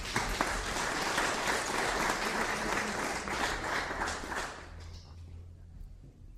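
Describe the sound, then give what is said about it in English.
A crowd of people applauds two men, a dense steady patter of clapping that carries on for several seconds before quickly thinning out and fading, leaving a low background hum. “Round of applause for these two guys.”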